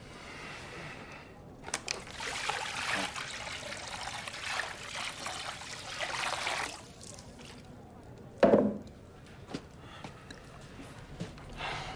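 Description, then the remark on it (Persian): Water trickles and pours steadily for several seconds, followed by a sharp splash or clunk and a few small drips and knocks. “باید بذاریش توی آب.”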